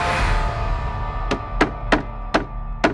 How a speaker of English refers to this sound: One evening, there was a knock at the door.